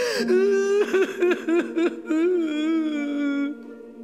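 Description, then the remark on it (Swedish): A woman, voicing a queen sitting alone in a large throne room, wails and sobs for about four seconds, a drawn-out whining cry broken by short catching sobs in the middle, fairly loud, sounding theatrical and exaggerated. “En vacker dag när drottning Galenpanna satt och grät som vanligt, helt ensam i den stora tronsalen,”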